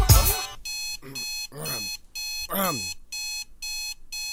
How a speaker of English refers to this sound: Get up, man. God damn it. Turn that damn alarm clock off.